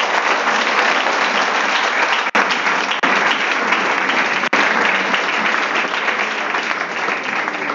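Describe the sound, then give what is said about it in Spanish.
A standing audience applauds for the Lord, a dense, continuous wash of many hands clapping at an even, loud level for several seconds, with two brief dips where the clapping momentarily thins. “¿Qué tal si le da un aplauso al Señor, por favor?”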